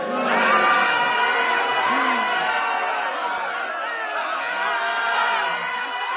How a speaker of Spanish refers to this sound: En la espaciosa sala se oían gritos de asombro y de horror, ya que el techo de la sala empezó a moverse, bajando cada vez más y amenazando con aplastar a los cortesanos.